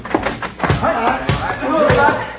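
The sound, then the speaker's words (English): A door is pulled open and swung shut, landing with a few solid thuds spaced about half a second apart, while voices murmur underneath. “Yeah, I'll get the door.”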